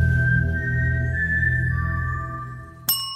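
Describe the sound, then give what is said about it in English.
A person whistles the four-note Mockingjay tune from The Hunger Games, owned by Lionsgate: G4, B-flat 4 and A4 eighth notes then a held D4 half note in G minor, steady and clear over a low background hum, ending with a sharp click. “Lionsgate Entertainment owns this tune described as, quote, a human whistling a G4 eighth note followed by a B-flat 4 eighth note followed by an A4 eighth note followed by a D4 half note in the key of G minor.”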